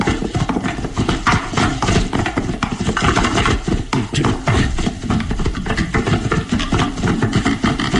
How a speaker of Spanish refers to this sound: Calimán impulsa al carruaje a entrar al destartalado puente, que se estremece con el galope de los caballos.